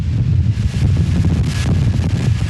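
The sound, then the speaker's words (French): Loud, buffeting hurricane wind batters the microphone in Tampa, Florida, with a constant low rumble and gusty roar, rising and falling in waves, with no voices present. “le vent, la pluie, les vagues, cocktail cauchemardesque en ce moment pour les habitants de Floride.”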